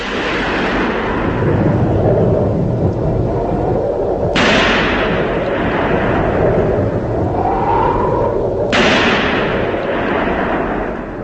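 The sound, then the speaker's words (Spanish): A stormy roar of wind rushes steadily throughout, broken by two sudden, loud cracks of thunder a few seconds apart, each rumbling away slowly. No one speaks. “El sanguinario monstruo acuático había llegado en una noche tempestuosa, acompañado por el aullido del viento y el estampido de los truenos.”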